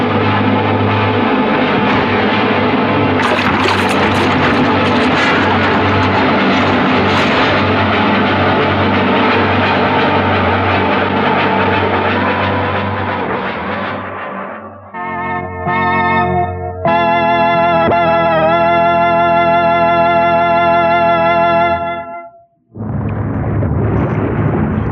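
A small jet plane shudders as it dives low over the ocean, skimming the wave crests before crashing into the sea: a loud, sustained roar giving way to harsh, ringing distorted tones and a brief silence, then a heavy crashing rush. No voices.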